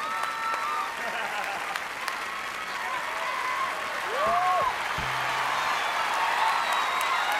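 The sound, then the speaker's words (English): A crowd claps steadily and laughs throughout, a dense wash of applause with scattered whoops and voices rising over it, sustained at an even level for several seconds. “And the audience laughs and claps.”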